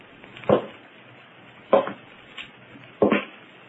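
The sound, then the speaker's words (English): Three heavy, dull footfalls on a roof land slowly and evenly about a second apart, with a fainter scuff between the last two, over a low hiss. No one speaks. “Footsteps on the roof. Someone's up there.”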